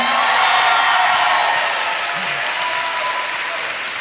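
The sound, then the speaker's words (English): Steady, dense applause from an audience at an NPR panel at 6th and I Synagogue, a broad wash of many hands clapping at a fairly loud, even level for several seconds, with a few faint cheers mixed in. “I am a writer and editor who is pausing for applause.”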